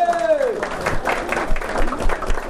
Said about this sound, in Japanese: 分かっていない方がどれくらいいらっしゃるのかなということを知りたいと思いまして、分かっている方拍手していただいていいでしょうか。